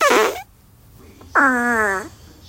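Two farts in a row: a short, sputtering blast followed by a pause, then a longer, tonal, buzzing fart that trails off slightly lower in pitch. Both are loud and close, with no talking.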